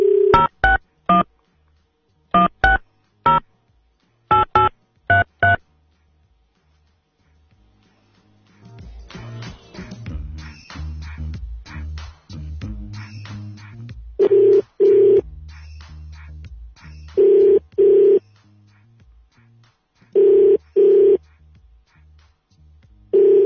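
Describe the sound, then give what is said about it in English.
A quick run of keypad tones as a phone number is dialed, then a short pause before a line rings with steady repeated ring tones over faint background noise. “Answer the phone.”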